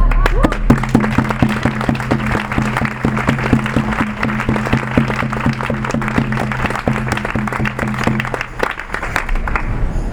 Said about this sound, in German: Eigentlich an dem Punkt kein Grund zum Klatschen